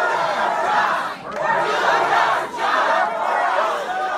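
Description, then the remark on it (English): A crowd of protesters at a town hall for Iowa Republican Joni Ernst in rural Iowa chants "Do your job" in unison, a loud sustained roar of many voices rising and falling in a repeated rhythm with brief dips between phrases. “crowds chanting, "Do your job."”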